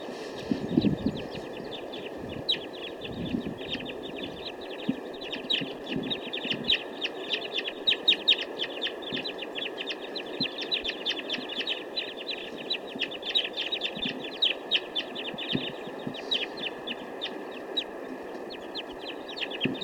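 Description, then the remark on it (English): A flock of birds near a capture net calls continuously for about twenty seconds, with dense overlapping chirps and chatter that keep a busy, steady level. No one speaks. “Looks like the rest of the flock now wants to move on.”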